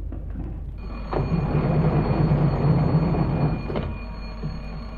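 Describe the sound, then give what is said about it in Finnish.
Train number 11 departs, starting to move with a deep, steady mechanical rumble and faint whining tones. It swells over a few seconds, then eases back to a low hum, with no voices. “Numero 11 lähtee. Numero 11 lähtee.”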